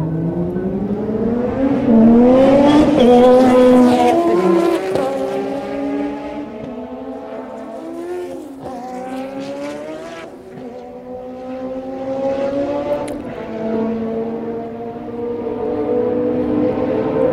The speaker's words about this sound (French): Passage plus ou moins rapide avec des moteurs froids.